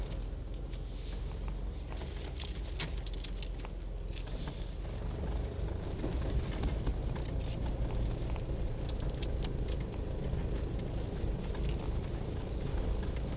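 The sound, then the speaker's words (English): Steady low rumble of passing car traffic on a Monday, continuous, swelling a little about halfway through, with faint clicks and patter on top and no one talking. “Lot of cars for a Monday.”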